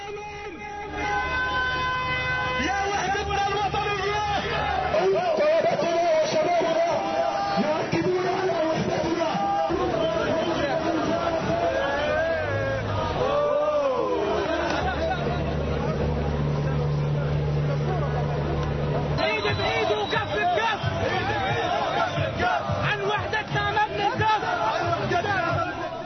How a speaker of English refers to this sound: Meanwhile, hundreds of Gazans rallied in the streets to celebrate a national unity deal between Hamas and Fatah.